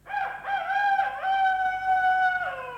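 A single drawn-out rooster crow, loud, holding a strained, wavering pitch for nearly three seconds before trailing off, with no other sounds around it.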